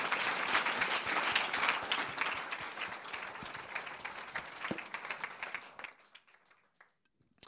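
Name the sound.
applause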